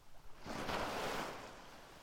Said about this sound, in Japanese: 海の音、静かでゆったり。お昼寝もしたくなりますよね。都会の喧騒から離れて、海の音って引いて寄せての繰り返し。